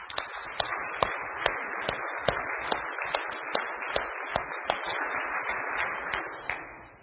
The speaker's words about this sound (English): And I think we need to give God another round of applause.